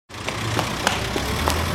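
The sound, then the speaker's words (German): A city bus bound for Schönweide idles with a steady, deep rumble, a few faint clicks and rattles sounding over the low drone. “Entschuldigung, war das der Bus Richtung Schönweide?”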